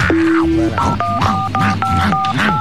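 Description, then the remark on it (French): A run of five or so steady telephone keypad dialing beeps, each a short two-note electronic tone pressed in quick succession, sounding loudly over people talking underneath. “Oui, non, raccroche. Non, non, avale le combiné, avale le combiné.”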